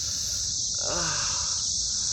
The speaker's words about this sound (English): Come with me, cicadas.